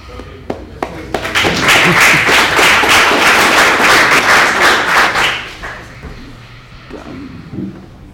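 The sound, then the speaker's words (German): A few scattered claps build into a burst of dense, loud applause lasting several seconds, then thin out and fade, with faint voices murmuring as it dies away. “Applaus bitte.”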